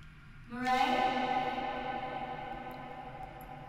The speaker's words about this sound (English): Your voice echoes.